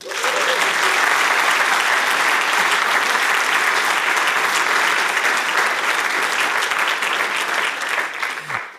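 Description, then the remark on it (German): An audience applauds the guests steadily for several seconds, a dense, loud wash of clapping that holds at an even level before tapering slightly at the end. “Ich bitte nämlich um einen ganz freundlichen Applaus für die Gäste des heutigen Podcasts.”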